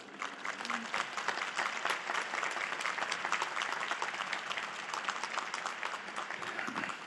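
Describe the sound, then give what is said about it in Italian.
Sustained applause from a large audience as two groups greet each other, one of about 250 people in the Paul VI Hall watching on a big screen. Dense overlapping claps form a steady, even roar of moderate loudness for several seconds, with no voices standing out. “Salutiamoci, ambigruppo, con un applauso.”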